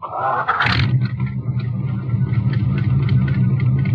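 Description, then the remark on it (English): A car engine is started by turning keys in the ignition; it cranks briefly and catches, then settles into a steady, low rumbling idle that continues evenly to the end, with no voices. “Put them in the ignition and turn them.”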